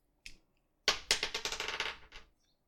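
A single click, then a twenty-sided die, rolled for a wisdom saving throw, clatters and tumbles across a hard tabletop in a quick run of rattling bounces that slow and fade to a stop, landing on 20. Fairly loud, no voices.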